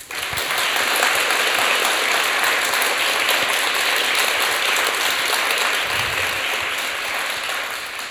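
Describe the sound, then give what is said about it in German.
A crowd claps steadily and fairly loudly for about eight seconds, showing how they would applaud a stage text scored at 7.5 points, a dense wash of applause holding an even level throughout with no voices over it. “Wie würdet ihr klatschen bei 7,5 Punkten?”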